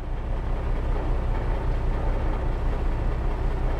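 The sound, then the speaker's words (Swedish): The diesel engine of a surfaced submarine at sea, at night in the first half of the 1900s, runs to charge its batteries with a steady, deep mechanical rumble, a continuous low drone at constant loudness with no pauses and no voices. “Där borta ligger den, ubåten som vi ska besöka. Fullt synlig, med motorn igång.”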